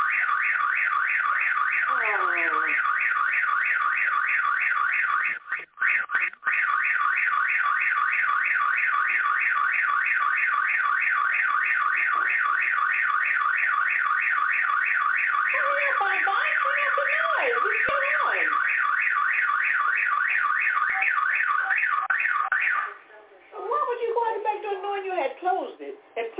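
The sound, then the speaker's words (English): A home security alarm, set to stay mode, blares continuously in a rapid, pulsing electronic tone, loud, set off when someone went out the back door forgetting it was on, while voices talk underneath it before the alarm cuts off near the end. “No, that's the alarm system going off.”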